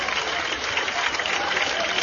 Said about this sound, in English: I believe this will be the pitching change. And I think Hardy's going to get a nice hand here from this crowd.